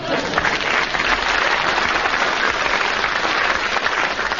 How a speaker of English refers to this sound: Right, that's it. You can applaud now. I've finished.